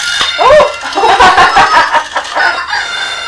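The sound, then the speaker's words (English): A toy rooster gives a loud electronic cock-a-doodle-doo crow, a bright, buzzy call lasting a few seconds, with no one talking over it. “Oh! There's a cocktail.”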